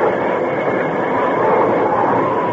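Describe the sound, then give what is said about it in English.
A steam train braking on the tracks at night as the Lone Ranger slams on the brake, a loud, steady wash of grinding, hissing rail noise that stays constant for a few seconds, with no voices. “When they were a few hundred yards away, he once more slammed on the brake.”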